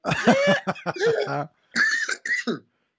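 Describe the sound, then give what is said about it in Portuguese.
A voice imitates a strained, choking cough made when breathing was blocked by a gogoplata chokehold in a grappling fight: a rough, strangled burst of hacking followed by two shorter, tight coughs after a brief pause, loud, with no talking. “Até tossi.”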